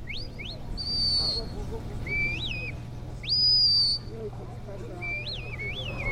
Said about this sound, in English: Their handlers use a series of whistled and verbal commands to tell the dogs where to go and what to do. Wee! Lie down. Wee! Wee!